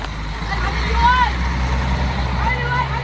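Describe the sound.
Buses with misted windows idle steadily with a deep, continuous engine rumble as they wait to take children away on a journey, while faint, indistinct voices drift over the drone.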